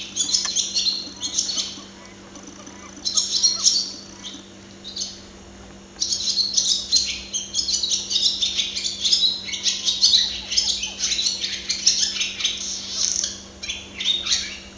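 Busy, rapid twittering and chirping from a barn swallow, bursts of fast high-pitched chatter that pause briefly and resume, clear over a steady low hum.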